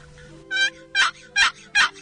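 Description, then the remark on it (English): A turkey call, its lid drawn across the call, produces a gobbler yelp: four raspy, evenly spaced yelping notes in steady rhythm, loud, with no talking over them. “That's a gobbler yelp.”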